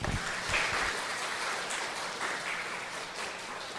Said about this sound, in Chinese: 我们大家热烈鼓掌。